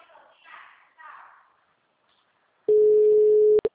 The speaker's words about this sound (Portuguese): telefone. The number is not answering.